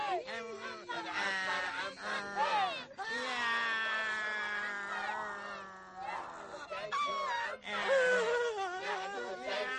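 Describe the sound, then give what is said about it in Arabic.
A person cries and wails loudly, long drawn-out sobbing cries that rise and fall in pitch, continuing almost without pause through the whole stretch with only brief catches of breath. “لا تبكي مثل الأطفال، ولكننا محتجزان الآن على الثرى.”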